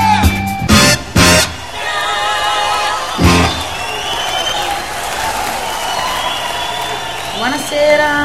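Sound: audience applause and cheering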